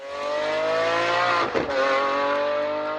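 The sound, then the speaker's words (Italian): A loud car engine revs hard and steadily, its pitch sliding slightly, with a brief dip and roar near the middle as it passes by. No one speaks. “Sono questi i rombi d'auto, ma anche di moto, che più di altri preoccupano le autorità di diversi cantoni e città, anche per le conseguenze che i rumori eccessivi possono avere sulla salute.”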